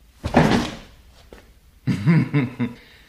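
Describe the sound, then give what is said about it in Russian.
A door swings open with a loud wooden knock and rattle, then a short tap, followed by a series of muffled thuds and creaks that briefly sound almost like voices. “Извините, я, кажется, не в ту дверь попал.”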